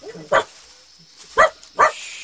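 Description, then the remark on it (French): Milou the dog barks three times at an elephant, with a short gap before the first bark and the last two coming close together, each bark loud against a quiet background hiss. “Toi, Milou, il ne faut pas l'effrayer.”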